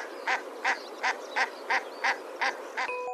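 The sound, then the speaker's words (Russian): Common shelduck calls: a steady series of eight short, nasal honking notes at an even, quick rhythm, clear against a quiet background, with no talking. “Обыкновенная пеганка.”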